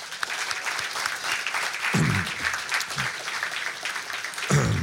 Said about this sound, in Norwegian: Jeg vil at jeg skal gi en stor applaus til dagens gjest, forfatter og kulturhistoriker Tor Gotaas.